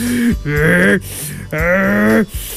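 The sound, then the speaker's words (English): A voice makes two long, loud, strained gasping sounds in close succession, mimicking a huge creature drawing in a deep breath, each one drawn out with a rising groan. “But Dracomax kept breathing in, filling his lungs and chest with dragon fire.”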